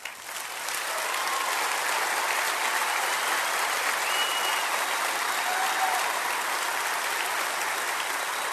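An audience of about 3,500 cattlemen at a convention in Nashville, Tennessee claps in sustained, dense applause that swells quickly after a brief start and holds steady at full volume, a wall of many hands with faint whoops mixed in.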